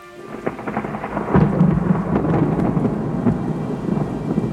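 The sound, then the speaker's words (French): Steady rain falling on a Sunday morning in the village of Châtenay, a dense hiss dotted with sharper drips and patters, over a low, rolling rumble that swells partway through. No voices. “En ce dimanche matin à Châtenay, malgré la pluie, plusieurs personnes se rassemblent sur le parvis de l'église.”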